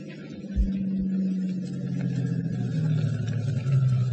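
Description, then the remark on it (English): A car engine rumbles steadily as the car comes down a road from a house toward the gates of an estate in the darkness, its low droning tone climbing slightly in pitch and growing a little louder as it draws nearer, with no voices present. “Wait in the darkness for the car coming down the road from the house.”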